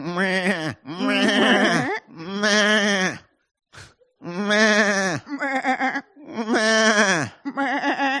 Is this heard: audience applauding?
no